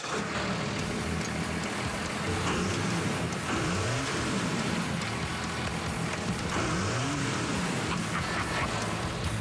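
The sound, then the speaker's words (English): A custom pickup truck, a 1949 Dodge cab on a 1989 Dodge chassis with a custom exhaust, is driven on the freeway. Its engine roars steadily over loud road noise, the pitch rising and falling in two revving swells, continuous with no voices. “Now we're driving on the freeway.”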